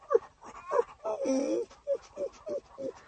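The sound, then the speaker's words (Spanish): A voice imitates a small, thirsty dog panting: a drawn-out whine followed by a steady run of short, voiced, rhythmic pants, moderately loud. “Pobrecito, está jadeando mucho y su lengua le cuelga.”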